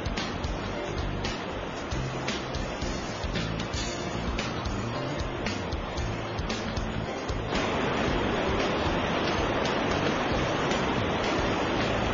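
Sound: flowing river water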